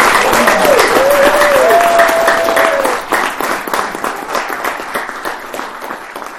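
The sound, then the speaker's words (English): An audience breaks into steady, dense applause of welcome, with a few voices calling out over the clapping before it thins into scattered claps toward the end. “Now the congregation is appropriate for us to say our applause and welcome.”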